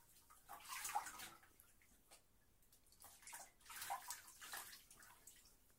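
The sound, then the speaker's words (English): Bathwater draining from a bubble bath in a tub, a soft hissing wash of water that swells twice with sloshing bursts, then eases off between them. No one speaks. “How about one last rinse while this drains?”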